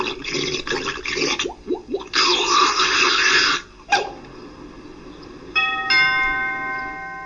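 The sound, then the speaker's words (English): A voice imitates a malfunctioning washing machine: rattling sputters and a few quick rising whoops, a long loud hissing whoosh, a sharp knock, then a steady nasal buzzing drone to the end. “Oh, forget about the washing machine. It sounds like...”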